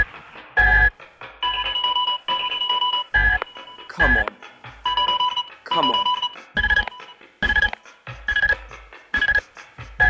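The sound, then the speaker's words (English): A telephone rings in repeated short electronic bursts at a steady rhythm, loud, while a person talks impatiently over it. “Answer the phone.”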